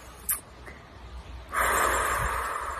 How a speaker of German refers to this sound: Atmen.